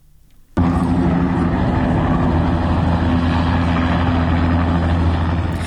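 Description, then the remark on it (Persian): A loud, steady mechanical roar kicks in abruptly after a quiet start and holds without pause, a deep droning rumble with low tonal hum, as a helicopter lands at Behesht-e Sakineh, used to bring in special forces and police. “اما هلیکوپتری فرود اومده در بهشت سکینه که صدای اون بسیار واضح شنیده میشه.”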